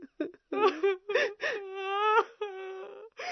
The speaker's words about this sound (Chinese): 夏甲和伊斯玛仪相对而坐，放声大哭。